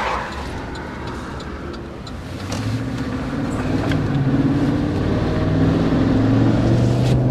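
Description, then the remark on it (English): A truck loaded with camera gear drones steadily as it drives along the road, heading south to photograph a November storm at Grand Haven State Park; a low rumbling hum with road noise that grows slightly louder partway through, no voices. “They keep their trucks loaded up all the time with camera gear, so they're ready to go out at a moment's notice.”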